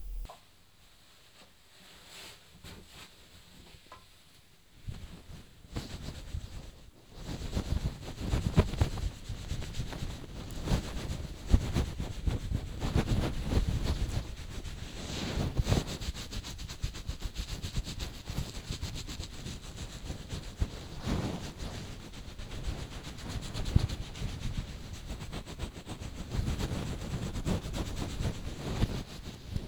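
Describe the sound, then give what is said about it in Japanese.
A towel rubs vigorously against hair to dry it after a bath, a dense, continuous scrubbing and rustling that starts softly, then grows loud and steady from about five seconds on, with brief surging strokes. No one speaks. “髪はタオルでできるだけ乾かしましたから、あとはドライヤーで。”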